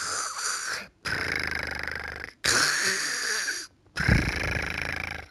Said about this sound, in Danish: Og morfar og mormor, de lå stadigvæk og sov i deres seng. For den var måske kun 7:30 eller sådan noget. Og morfar, han elsker at sove længe, så han lå og snorkede.